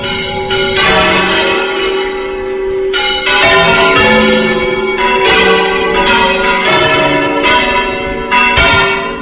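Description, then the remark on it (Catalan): Large bells of Valencia Cathedral in Valencia ring out in overlapping peals, loud, with repeated strikes every second or so and a rich, sustained resonance layering into a continuous clangor. No voices. “Aquestes que esteu sentint, s'ha de dir que no són les de la catedral d'Eivissa, són les de la catedral de València.”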